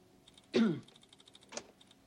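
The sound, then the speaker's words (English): Light, quick clicks of a man tapping on a computer keyboard continue steadily, with two louder, breathy bursts breaking in briefly, one near the start and one near the middle. “He taps at the keyboard, and his screen displays the Western movie that the entire staff are still watching.”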